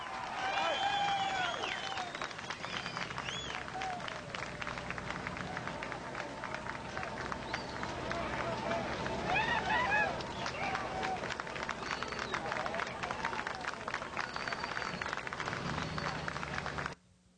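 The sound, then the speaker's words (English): A crowd cheers and claps steadily for about seventeen seconds, with whoops, shouts and dense applause blending into a loud, continuous roar that cuts off abruptly at the end. “I'm beginning to hear a cheer or two now.”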